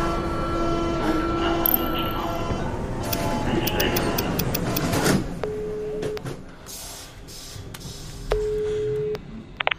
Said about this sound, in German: Na, ich bin gerade in der U-Bahn. Kann sein, dass der Empfang gleich weg ist.